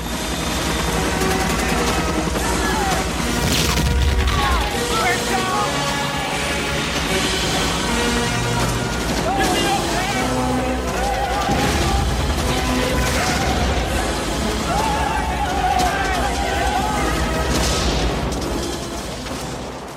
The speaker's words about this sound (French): On entend les hélicoptères qui arrivent petit à petit au-dessus du village, les enfants sortent de l'école pour vite se mettre en sécurité, les soldats vietnamiens prennent leurs armes, 8 minutes de mitraillage et d'explosion sur du Wagner.